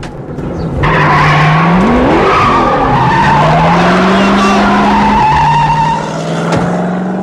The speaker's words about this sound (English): As Joey arrives back at the looted car, Truman pulls away in a puff of tire smoke.